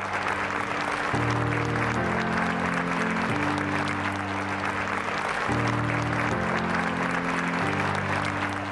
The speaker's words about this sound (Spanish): Y hasta se pone piel chinita al ver ese aplauso, todos de pie, los buenos comentarios.